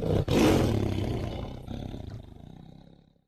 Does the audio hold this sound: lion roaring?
yes